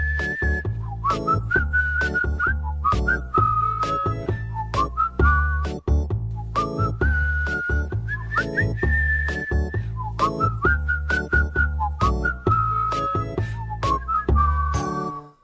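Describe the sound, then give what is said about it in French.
A clear whistled melody, the finale of a song, rises and falls in short phrases over a steady, rhythmic backing track with a pulsing beat, carrying the tune for the full stretch without any voices. “Ok, la finale, on siffle.”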